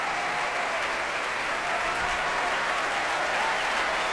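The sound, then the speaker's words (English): Sustained, dense applause from a BBC Proms concert audience for the London Philharmonic Orchestra and conductor Robin Ticciati after a Humperdinck score. Many hands clap in a steady wash at an even, loud level throughout, with no voices standing out. “Fantastic applause for the London Philharmonic.”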